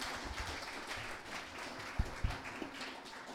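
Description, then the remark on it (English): An audience claps together in a steady, dense patter that continues throughout, fairly soft, with a couple of sharper claps standing out near the end. “Come on, a clap off, reboot.”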